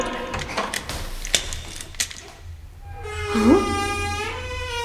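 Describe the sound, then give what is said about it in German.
A key rattles and clicks in a door lock, a quick run of sharp metallic clicks, followed by a long, drawn-out creaking squeal as the door begins to move. “Der Schlüssel steckt im Schloss.”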